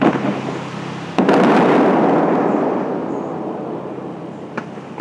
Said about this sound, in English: The crew tests a few of the fountain's high-powered shooters.